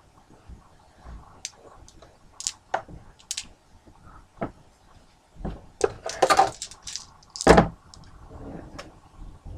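Seven dice, rolled for a tabletop role-playing game, rattle and clatter across a hard surface in scattered, irregular sharp clicks that grow into a louder burst of tumbling knocks toward the end before settling.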